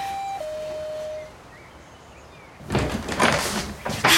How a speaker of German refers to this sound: dann lass uns mal bei Jule klingeln und nicht länger vor der Tür rumstehen